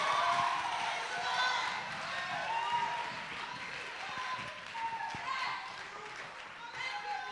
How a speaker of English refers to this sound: Oh, somebody clap your hands and praise him today.